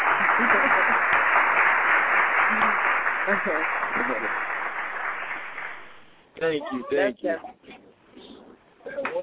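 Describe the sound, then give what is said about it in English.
A studio audience applauds in a dense, steady round for about six seconds, tapering off as a man begins talking, with some cheering mixed into the clapping. “That's exactly what I'm talking about, calling in and showing his love, and you definitely got to get a round of applause live in the building.”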